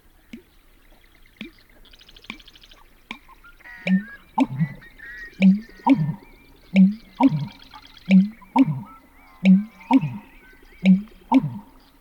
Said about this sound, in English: To me, the most unusual of all marsh sounds is the breeding call of the male American bittern, a drab heron-like bird that hides out among the cattails.